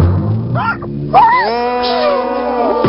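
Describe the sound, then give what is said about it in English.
A dog yips and whines, letting out a string of high, sliding yelps and longer wavering cries over about three seconds, loud and alone with no talking. “Yes, he's perfect for the part in the dog food commercial we're doing.”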